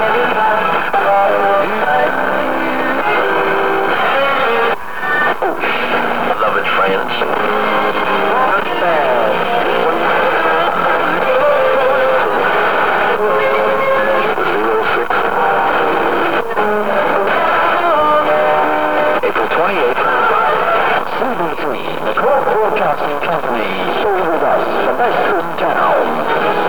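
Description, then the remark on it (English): A radio set's dial being turned between stations to find CBC Radio at 7 o'clock on 30 June 1978, just before it goes off the air: a loud, continuous jumble of hiss, warbling tones and scraps of music and voices that shift abruptly every few seconds, with brief snatches of speech. “This is what you do to your radio set.”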